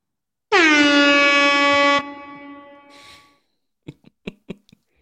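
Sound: air horn blast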